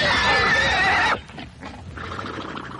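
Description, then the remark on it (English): A horse lets out one loud, quavering neigh for about a second, then it cuts off to a quieter stretch of soft, muffled background noise. No one speaks. “Now, while Sandow was throwing horses...”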